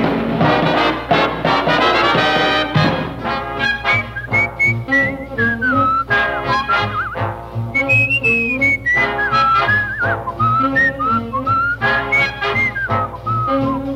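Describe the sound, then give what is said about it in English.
A person whistles a bright, lilting melody over a full band accompaniment, the clear whistled line rising and falling prominently above steady rhythmic backing throughout. “How come you're whistling? Why don't you play?”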